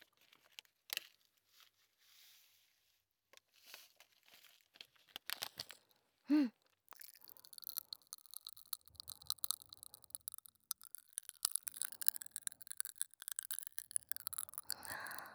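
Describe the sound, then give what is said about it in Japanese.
Short bursts of a plastic wrapper tearing and crinkling, then a steady, fizzy crackling and crunching as popping hard candy is eaten, with no talking. “飴？どうやって食べるのが正解なの？”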